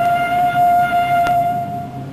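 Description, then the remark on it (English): A departing train sounds a long, steady whistle, a single sustained tone that holds for over a second before cutting off, heard faintly from a distance over a low rumbling background. “Faintly from a distance, there comes the sound of a departing train.”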